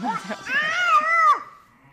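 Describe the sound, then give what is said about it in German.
A small boy, carried on his shepherdess mother's back among a group of ewes and their lambs, bleats like a sheep: one drawn-out, wavering 'baa', preceded by a few short babbling sounds, then quiet. “Er macht auch schon Schafgeräusche.”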